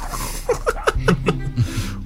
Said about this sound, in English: I got an ad coming up on mine. Hang on a second. Mute. Okay, sorry about that. I don't know where that little ad came from. I kept hearing a dog barking.